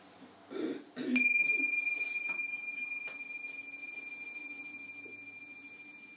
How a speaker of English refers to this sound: And at the ringing of the bells, let's shift our awareness from breath and body as a whole to the sounds.